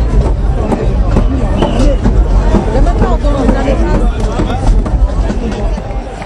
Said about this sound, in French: Alors je me faufile dans la foule. C'est la foule joyeuse pour cette journée exutoire où l'on fait semblant que tout va bien. L'ambiance bon enfant et de vigueur.